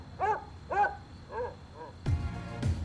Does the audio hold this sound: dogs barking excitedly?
yes